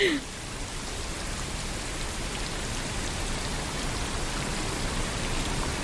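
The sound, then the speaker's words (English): A steady, dense hiss of rain, smoothed into an even wash of white noise that holds at a constant level for the whole stretch, with no pauses and no voices. “It's rain that has been modified to make it white noise.”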